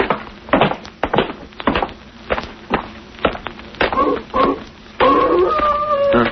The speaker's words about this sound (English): What's that? Sounds like a wolf. That ain't what the wolves sound like down in California. You're thinking of the Hollywood kind. This is the real McCoy. When you hear a dog howl like that, they say he's sitting on somebody's grave.